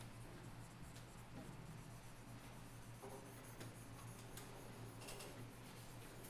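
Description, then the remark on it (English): Quiet, steady scribbling of a marker filling in a fat letter A drawn on a whiteboard, with soft scratchy strokes and occasional sharper squeaks over a constant low hum, no one speaking. “So we have like this A that we use up all our marker to fill in.”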